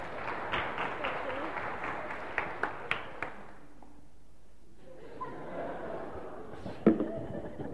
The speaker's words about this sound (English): So remember, only when your mouth is empty can you shout finished. Ready? Almost. Brace yourself. You may get covered in bits. Finished. A round of applause.